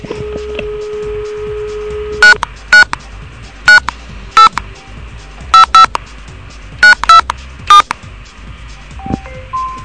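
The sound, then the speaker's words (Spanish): A steady telephone dial tone gives way to about ten short touch-tone dialing beeps in uneven bursts as a call is placed on a second line for the radio programme Extremos, sharp and moderately loud over a low, faint line hum, with no one speaking. “Vamos a utilizar la otra línea para que no haya interferencia y comunicarnos de manera correcta.”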